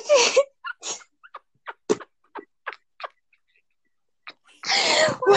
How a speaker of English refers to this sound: How strong was that sneeze?